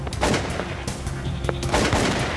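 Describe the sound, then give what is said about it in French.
A string of carbine gunshots fired at 4 a.m. on a moonless night, several sharp cracking bursts at irregular intervals over a constant rumbling background, with no voices. “Et chaque fois qu'il faisait feu avec sa carabine, il y avait des éclats de lumière tout autour.”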